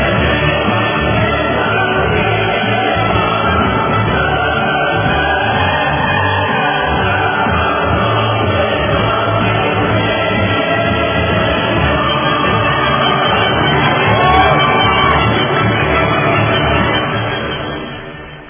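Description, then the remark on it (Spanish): A crowd applauds and cheers in a steady, dense roar of clapping and voices that holds at the same loud level for most of the time, then fades out at the end, applauding a teacher nominated for an international award. “Vamos con los aplausos y el himno a la alegría al profesor Saúl Rivera.”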